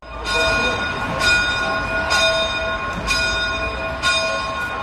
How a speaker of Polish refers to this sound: W cerkwi świętego Mikołaja Antiocheńskiego w Melbourne odezwały się dzwony na mszę o północy, a wierni australijscy byli jednymi z pierwszych na świecie, którzy obchodzili prawosławną Wielkanoc.